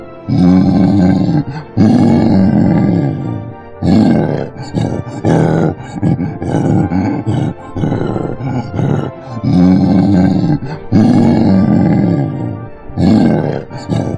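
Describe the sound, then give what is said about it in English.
Deep, rough gorilla grunts and hoots come in a series of long, loud bursts with short pauses between them, a guttural roaring growl repeated about six times with no talking. “A gorilla, and I'll press enter to help you identify the gorilla.”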